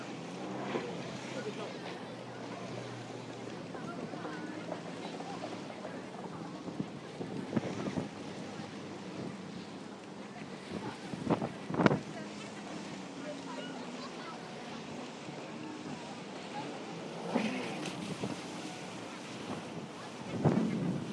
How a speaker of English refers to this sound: Oh, it's a boat, not wave.